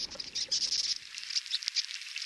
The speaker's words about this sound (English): Those are bark beetles, tiny insects about the size of a grain of rice. They're infesting western forests. Here in New Mexico, they've killed hundreds of thousands of trees over the last few years.